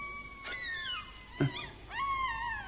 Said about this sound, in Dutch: Wat is dat? Dat? Het zijn de wilde honden. De dingo's. Ze beginnen al vroeg vanavond.